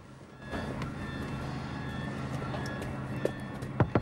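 A young man raps a few sharp knocks on a car window near the end, over a steady hum of street traffic and background noise.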